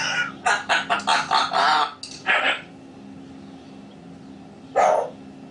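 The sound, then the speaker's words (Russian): A chicken clucks in a quick run of about eight loud, harsh calls, then gives one more cluck and, after a pause, a final one against a quiet background. “Вон, видишь, курица чего?”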